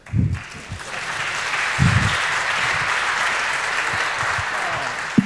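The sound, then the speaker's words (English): An audience applauds steadily for about five seconds as speakers take the stage for a talk on neurodiversity, a dense, sustained patter of many hands clapping at an even, fairly loud level, with a few louder low thumps mixed in. “Please give a warm applause to our wonderful speakers.”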